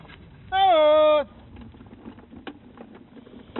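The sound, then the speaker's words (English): A calf lets out one loud, drawn-out bawl lasting under a second in a pen with cows, followed by quiet rustling and a few scattered knocks and clatters in the pen. “I got to get these cows separated.”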